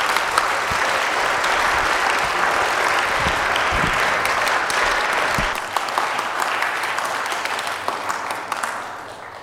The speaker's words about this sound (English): Let's give Mr. Wall a round of applause.